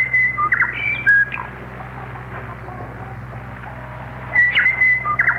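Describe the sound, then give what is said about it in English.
A bird's clear, warbling whistle call sounds in two short bursts, at the start and again near the end, over a steady low hum and hiss: a bird-call interval signal on a shortwave radio broadcast from New Zealand. “What a bird.”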